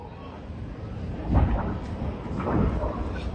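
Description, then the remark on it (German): A recording of an explosion at a commercial site: it booms out muffled as a deep, broad rumble, followed about a second later by a second rolling swell of low noise, all over a steady hiss of background noise. “Ja, da ist die Explosion zu hören.”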